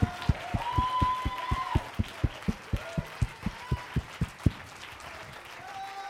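Light, polite applause: a steady run of crisp, evenly spaced claps for about four and a half seconds, then it stops, leaving a soft murmur of voices and room noise.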